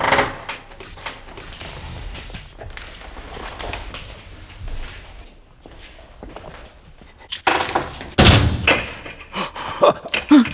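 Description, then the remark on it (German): A door creaks and clunks open, then a burst of loud rattling and banging follows as someone yanks at a door bolted from the outside, wooden knocks and metallic jolts coming in uneven bursts. “Aber jemand hat die Tür von außen verriegelt.”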